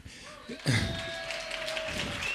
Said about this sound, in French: Merci. C'est pour les kilomètres que vous applaudissez, c'est ça?